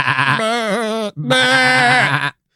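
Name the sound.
goat bleating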